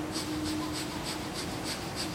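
Rapid, forceful breath-of-fire breathing, in and out through the nose like relaxed hyperventilation, in a steady, quick rhythm, about seven sharp hissing puffs in two seconds, fairly quiet, with no talking.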